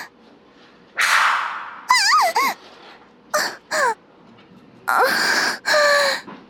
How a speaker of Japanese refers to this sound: ビンタありがとうございます。